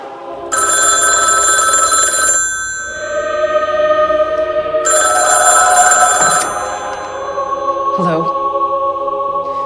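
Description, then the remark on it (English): An old rotary telephone sitting on a raised platter on a corner of a table rings in two loud, rattling bursts, each about two seconds long, separated by a pause, with a steady humming tone lingering underneath. “The rotary phone sits on a raised platter on a corner of the table.”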